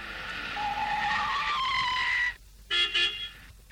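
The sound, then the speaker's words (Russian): At night, a car pulls up to a house with a drawn-out squeal of braking tires, then after a brief pause gives two short, loud honks of its horn. “И вот он подъехал к дому по нужному адресу.”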